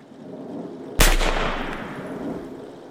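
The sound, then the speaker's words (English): A single loud gunshot, a man shooting himself in the head inside a car in a dark housing estate, cracks sharply, its echo rolling around the estate and slowly fading over a couple of seconds against a quiet background hum. No voices are present. “A large bang echoed around the dark housing estate.”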